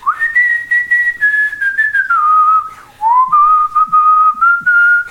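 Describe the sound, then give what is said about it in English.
A person whistles a slow, wandering tune with long held notes that glide up and down, clear, while their steps come nearer, with no talking, broken only by brief pauses between phrases. “And then all of a sudden heard these like steps coming near me and someone whistling.”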